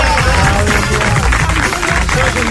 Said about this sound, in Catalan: Més aplaudiments per allà cap al president